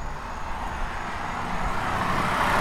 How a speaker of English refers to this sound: That car is going way too fast in the residential area. It's going 40 miles an hour.